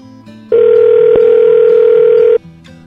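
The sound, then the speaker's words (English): A telephone ring tone on the line as a call is placed back to a hotel: one loud, steady electronic tone holding at a flat mid pitch for about two seconds, then cutting off abruptly. “I want to call her back just to say that.”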